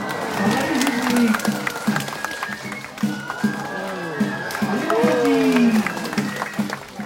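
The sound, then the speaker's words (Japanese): A crowd cheers and applauds loudly, with scattered clapping and rising shouts from many voices, as an audience reacts to acrobats performing big stunts without safety lines atop two swaying green bamboo poles over 10 metres high at a bamboo acrobatics show in Nagasaki. The noise stays dense and continuous throughout. “ただもう次々と披露される大技には、これはもうね、思わず歓声が起こっていました。”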